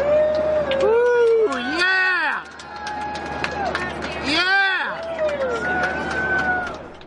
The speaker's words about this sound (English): At the end of the eclipse, you can hear all the passengers cheering.